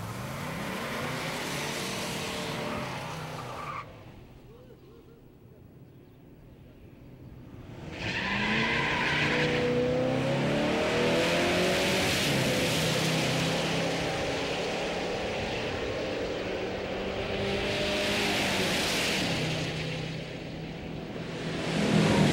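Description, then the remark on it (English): Loud roaring car engines, including a silver car with a tall gear in its automatic transmission, rev and climb in pitch as they accelerate, with a brief lull in the middle before the full-throttle roar returns and holds steady, with no voices. “This silver car behind us here is probably going to pay the price for having the tall gear in the automatic transmission.”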